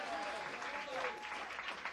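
An audience claps steadily, a dense, even wash of many hands at moderate volume with no break across the two seconds and no one speaking.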